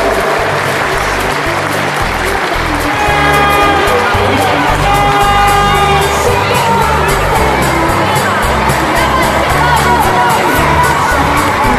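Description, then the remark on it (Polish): A large crowd in a sports hall in Praszka applauds and cheers loudly and steadily for about twelve seconds at the opening of the 11th tournament, with shouts and whistles rising out of a dense, echoing wash of clapping. “Jeszcze raz proszę o brawa dla naszej chwały sportowej.”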